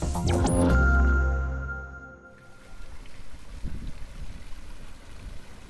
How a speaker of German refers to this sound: Der Brunnen auf dem Frankfurter Römerberg plätschert so vor sich hin.